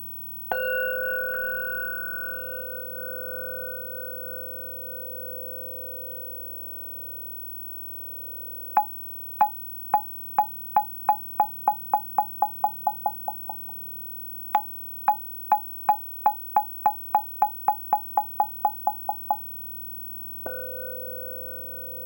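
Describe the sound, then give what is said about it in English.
A gong, a basic instrument of Buddhist and Taoist temples in China, rings out and fades, then two runs of sharp knocks on a wooden fish, the other basic temple instrument, start slow and speed up into a rapid roll before the gong sounds again at the end. No voices. “These two instruments, the gong and the wooden fish, are the basic instruments used in the temples of Buddhism and Taoism in China.”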